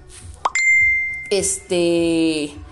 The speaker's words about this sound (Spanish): Perdón, sonó el teléfono. No le puse el silenciador.